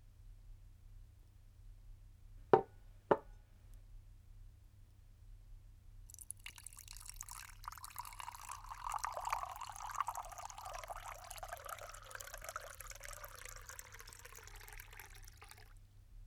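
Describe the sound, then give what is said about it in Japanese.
Two sharp clicks, then a steady pour of carbonated water fizzing and hissing for about ten seconds, bubbles crackling before it stops. No voices. “せっかくなので、そばに炭酸水を置いて、シュワシュワした音に浸っちゃいませんか？”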